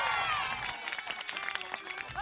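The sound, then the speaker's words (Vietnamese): A crowd breaks into applause mixed with cheering and shouts after a clown uses his foot to toss his hat so it lands right on his head, a dense burst of clapping with high voices rising over it for a couple of seconds. “biểu diễn trò dùng chân, tung chiếc mũ rơi đúng lên đầu, thì những tràng vỗ tay và tiếng reo hò tán thưởng vang lên.”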